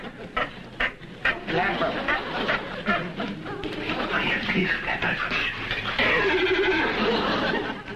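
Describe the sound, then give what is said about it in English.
A trained seal barking: a quick series of hoarse, honking barks at the start, then longer, wavering bleat-like calls that continue loudly for several seconds. “Well, if that ain't a seal I hear barking”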